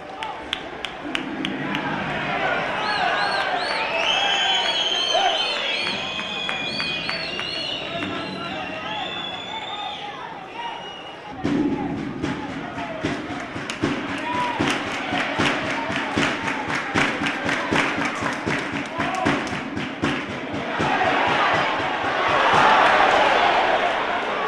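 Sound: stadium crowd whistling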